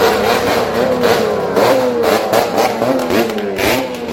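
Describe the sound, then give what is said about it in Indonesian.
A convoy of motorcycles revs loudly and repeatedly, pitches rising and falling in overlapping bursts as the group passes public and private university campuses in Solo on a Wednesday afternoon after vote counting at polling stations, with a constant roar throughout. “Iring-iringan sepeda motor yang suaranya memekakkan telinga melintasi beberapa kampus negeri dan swasta di Solo usai penghitungan suara di berbagai tempat pemungutan suara atau TPS di Solo Rabu sore.”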